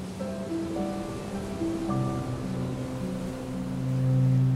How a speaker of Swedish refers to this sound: är det havets ljud, vågornas ljud, som slår mot stranden.